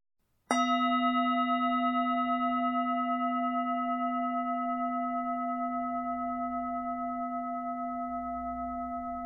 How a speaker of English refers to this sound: We'll begin and end the practice with the sound of the bell.